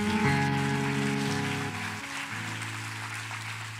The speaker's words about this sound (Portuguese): Aleluia. Dê um aplauso a Jesus aí.